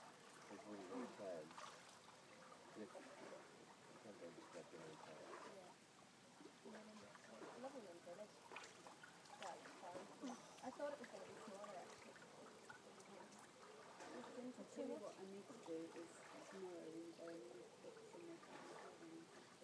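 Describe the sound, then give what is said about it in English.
Water splashes and sloshes steadily in a swimming pool as a person is pushed in, for about twenty seconds, a busy, moderately loud churning with small drips and ripples, while indistinct voices murmur faintly underneath. “I'm not sure if your phone kind of picked up your splash the first time, but if you want to stay on the side, I'll push you in again, and you can have it recorded a second time.”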